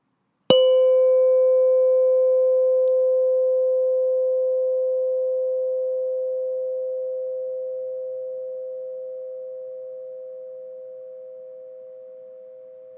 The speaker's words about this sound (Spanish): Ahora escucharás el sonido de una campana. Pon atención a ese sonido y date cuenta del momento en el que dejes de escucharlo.